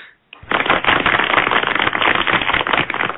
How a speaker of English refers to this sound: We got applause